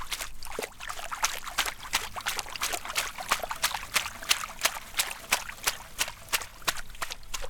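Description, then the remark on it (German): Plants are pushed down under water, making a steady run of soft sloshing splashes that repeat quickly and evenly, with no talking over them. “Da drücken wir das hier so unter Wasser.”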